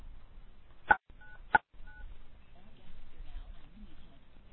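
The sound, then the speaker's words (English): Two short beeps from a telephone keypad as the phone lines are opened, each a pair of steady tones, sounding about half a second apart, followed by a quiet background hum with faint noise. “Why don't we open up the phone lines and see if anyone who's on the phone has a question today?”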